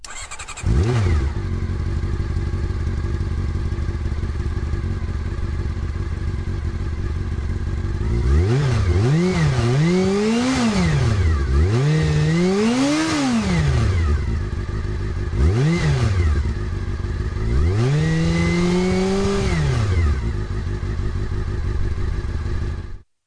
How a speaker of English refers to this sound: I'm going to play you 20 seconds of a bike starting up and revving. See if you can guess what it is. Make and model.